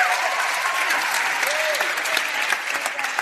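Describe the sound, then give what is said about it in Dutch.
A large audience applauds its band steadily, a dense, continuous wash of clapping hands that stays loud and even throughout, with a few faint voices and whistles mixed in. “Nog één keer een heel groot applaus voor onze band.”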